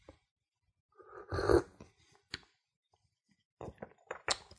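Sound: slurping coffee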